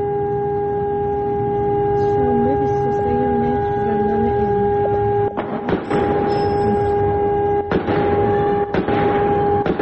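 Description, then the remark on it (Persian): A siren sounds continuously as a steady, droning tone across the whole recording, with a few sharp bursts of noise cutting in near the end, reported at Evin Prison in Tehran, Iran, on a Saturday night amid a large fire, gunfire and explosions. No one speaks. “به هر حال شاهدان عینی که در شبکه‌های اجتماعی مشاهداتشون رو منتشر کردن گفته بودن که آتش سوزی گسترده بوده، صدای آژیر و تیراندازی و صدای انفجار شنیده شده.”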